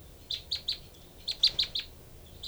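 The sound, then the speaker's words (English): Two birds trade short, high chirps back and forth: a quick run of three notes, a pause, then a run of four, and a single note at the end, with no talking. The female gives a pattern counted as three and four, and the other bird responds with three and five. “Both birds here.”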